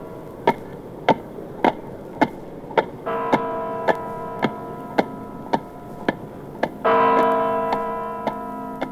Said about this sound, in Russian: А вон те часы на Спасской башне. Главные часы государства. Так сказал про них Владимир Ильич Ленин.